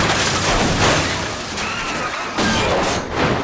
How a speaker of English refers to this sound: Reggie tries to swerve, but Betty smashes into him.